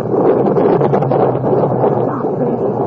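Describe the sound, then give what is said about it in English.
Heavy storm rain lashes against window-pane glass in a dense, unbroken roar, with a gritty patter of drops running through it, in Lexington, Kentucky, in 1839. The storm noise stays loud and steady throughout, with no voices. “The year 1839, in the heart of the bluegrass region of Kentucky, the city of Lexington, a young lady from one of the city's leading families, 21 years old, watches terrified as the rain beats in savage fury against the glass of the window pane.”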